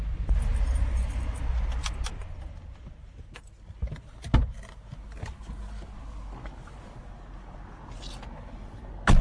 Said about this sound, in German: Der Wagen verlässt den Highway. Über die Clarendon Avenue fährt er direkt zum Trainingscamp der Brewers, dem Mayvale Baseball Park.